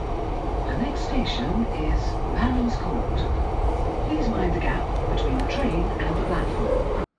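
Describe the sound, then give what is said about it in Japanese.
A London Underground Piccadilly line train rumbles steadily along with a dense, continuous roar and rattle, heard from inside the carriage as it heads toward Heathrow, with faint voices and scattered squeaks over the noise. “今ピカデリーライン動き出しました。電車の方が走っています。”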